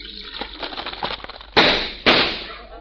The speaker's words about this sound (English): Oh, boy, hot cereal. Hey, does it crackle and pop? Well, of course. Just pour some cream over it and see.